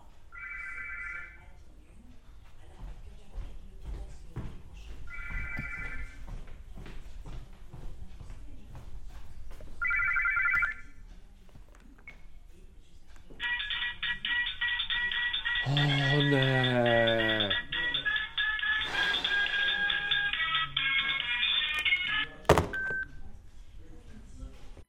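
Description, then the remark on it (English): A telephone rings in three short, evenly spaced bursts, then breaks into a long, loud, continuous ring over a noisy background before cutting off. “A ringing telephone might cover up annoying sound sources.”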